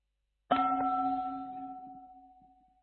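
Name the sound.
meditation bell ringing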